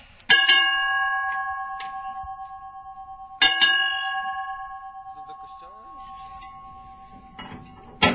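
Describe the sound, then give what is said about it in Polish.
A ship's bell rings out in double strikes marking ship's time, two quick clangs, a pause, then another pair, each pair counting as one glass, each leaving a long bright ring that slowly fades. A voice is briefly heard near the end. “Dwa uderzenia, takie jak były, takie bing bing, jedno koło drugiego, to jest jedna szklanka.”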